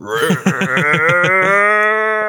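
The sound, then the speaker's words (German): A person imitates a goat with a loud, wavering bleat that sounds more like a sheep, starting as a rapid stuttering pulse and stretching into a long quavering note. “Das klang jetzt eher wie so ein Schaf, glaube ich, aber egal. Die lachende Ziege.”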